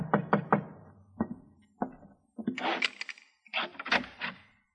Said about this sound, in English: I just sat down in my office with a sandwich and a cup of coffee when there was a knock on the alley door.